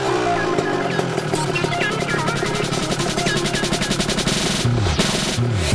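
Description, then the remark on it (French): A loud Piaggio MP3 three-wheeled scooter engine runs throughout with a rapid, rattling judder as it brakes hard over a bumpy road, using two disc brakes on its two front wheels. Near the end the engine briefly rises in pitch. “Et même en essayant de le brutaliser, freinage extrême sur route bosselée, il reste hyper stable.”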